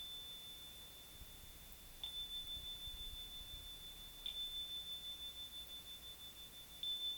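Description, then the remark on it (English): A small, high-pitched bell is struck three times at slow, even intervals, each strike sustaining into a clear, steady ring that lingers between hits. It is quiet, with no talking. “Now, this dripping of the water can be paralleled in the ringing of a bell.”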